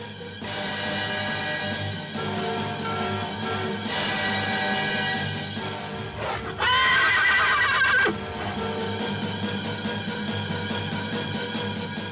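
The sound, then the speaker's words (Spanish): A horse whinnies loudly in a bright, shrill burst amid a broad bed of noise, then a steady rhythm of hoof clops follows. No one speaks. “Tirante hizo poner todos los caballos en línea y no pasaba más la cabeza de uno que la de otro”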